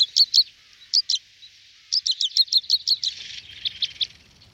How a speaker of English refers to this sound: The crossbill, it's quite a bird.